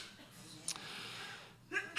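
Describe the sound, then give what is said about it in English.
A single short, breathy sneeze bursts out near the end after a brief hissy intake, fairly soft against a faint background hiss, with no talking. “Bless you.”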